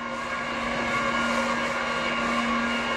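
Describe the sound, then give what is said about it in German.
A vacuum cleaner drones steadily inside a holiday house that is being prepared for tourists coming for the sports holidays. It is a continuous hum with a firm low tone and a hissing airy wash above it, holding the same even loudness throughout with no voices. “Im Haus drinnen brummt ein Staubsauger.”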